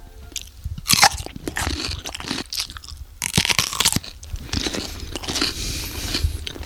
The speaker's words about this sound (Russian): Села на этот ледяной пенек, достала большую ледяную сосульку и начала ее грызть.